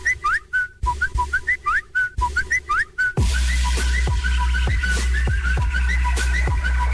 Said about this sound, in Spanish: Una canción con el sonido de WhatsApp. ¡Guau! Wow.